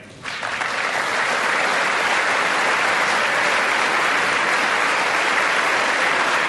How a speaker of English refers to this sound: Well, he's getting big rounds of applause there